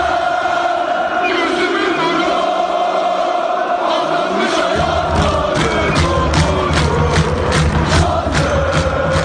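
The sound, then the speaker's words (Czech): A large crowd of Turkish Galatasaray football fans chants in unison that Galatasaray is their life, a loud, sustained roar of voices. Rhythmic claps or drum hits join partway through, punctuating the singing with a steady beat. “To Turci rádi zpívají i o tom, že Galatasaray je jejich životem.”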